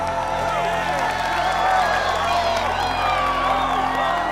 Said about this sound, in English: The students are applauding him.